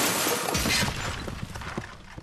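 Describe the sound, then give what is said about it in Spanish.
A loud car crash impact at a taco stand, caused by a driver texting on a cell phone, with a burst of shattering that fades out over about two seconds into scattered rattles and clinks of falling debris. “Mientras atendía su puesto de tacos, se oye un rechinido de llantas.”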